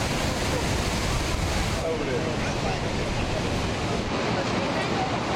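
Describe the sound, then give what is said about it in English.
The steady, unbroken roar of Niagara Falls, a massive waterfall, a dense rushing hiss that fills the whole clip at constant loudness with no pauses or distinct events. “this is my first time actually seeing Niagara Falls”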